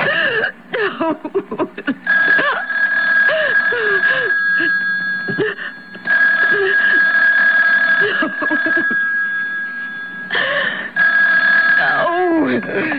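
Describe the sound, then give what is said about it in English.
A telephone rings in long, repeated bursts, a bright, steady electronic trill that keeps coming back, while a voice speaks over and between the rings. “You know you have to answer, darling.”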